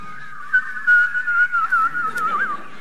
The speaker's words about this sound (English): I never knew what that was about, and I still don't know what that whistling stuff is about.